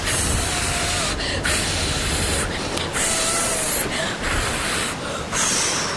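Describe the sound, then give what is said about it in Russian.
Someone blows hard and steadily into the sails of a toy boat in a bathtub, making a loud rushing hiss in long gusts, about four or five of them, separated by short pauses for breath. “Дим Димыч изо всех сил стал дуть в паруса игрушечного кораблика.”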